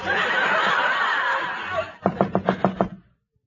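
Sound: knocking on a door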